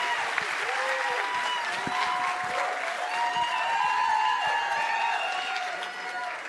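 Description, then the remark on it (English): A crowd claps steadily for several seconds to welcome guest Darren Mulligan from a band, a dense, even wash of applause with a few cheers and whoops rising through it, holding strong before easing slightly at the end. “Put your hands together for Darren Mulligan from ….”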